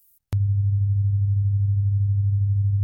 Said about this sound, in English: Low frequencies, if you think about the wavelength, low frequencies like 100 hertz, the wavelength is 12 feet, right? I'm going to play you a 100 hertz sound, meaning 100 vibrations per second. Those waves reaching your ear right now, 12 feet long.